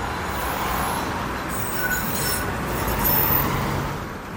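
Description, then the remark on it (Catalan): A tram rolls quickly through the city streets of Sarajevo, a steady, fairly loud rumble with a faint metallic squeal. It swells slightly near the end over a constant wash of urban traffic noise. “Però, per exemple, encara queden edificis residencials destruïts al costat dels tramvies que creuen la ciutat a gran velocitat.”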